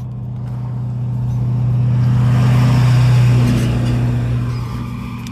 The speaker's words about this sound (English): Wait for the truck to go by.